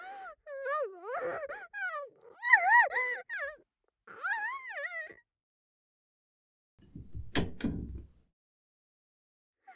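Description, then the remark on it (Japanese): After several seconds of wavering, sobbing moans, a door opens with a short rumbling creak and a sharp click, moderately loud, followed by silence. “ある扉が開く音が聞こえた。”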